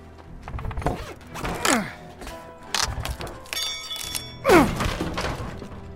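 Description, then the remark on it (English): Heavy metallic thuds and knocks come in bursts, mixed with creaking, groaning strains and a brief metal squeal, as a crowbar forces something open. “Crowbar.”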